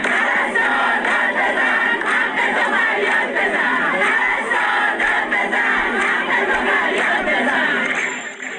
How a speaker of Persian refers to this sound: در ویدیوهایی که از این تجمع در شبکه‌های اجتماعی منتشر شده دیده می شود که این پرستاران به نشانه اعتراض به وضعیت معیشتی خود سفره خالی به دست گرفته و فریاد می زنند پرستار داد بزن، حقتو فریاد بزن و یا وعده و وعید کافیه، سفره ما خالیه.